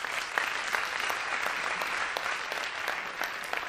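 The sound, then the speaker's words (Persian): Steady audience applause fills the whole stretch, a dense patter of many hands clapping at moderate volume, with a few sharper claps standing out from the wash. “عالی، خیلی خوب، مرسی، تشویق کنید، مرسی.”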